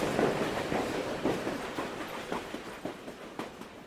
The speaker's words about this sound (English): Terrified, the children pressed themselves against the slimy wall of the tunnel. The train rushed past them with a roar and a rattle and a flash of carriage windows.